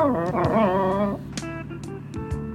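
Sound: dog whimpering and yipping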